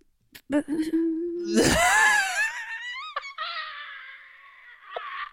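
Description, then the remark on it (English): A woman's voice mimics a phone going dead, in the accent of a character she was just doing: a steady low hum, then a rising, wavering squeal that thins into a long, flat, buzzy electronic tone, ending with a short click-like blip. “Oh, so when she hasn't queued up a noise of a phone going dead, she tries to do the noise of the phone going dead.”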